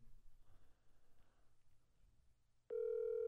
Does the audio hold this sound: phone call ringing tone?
yes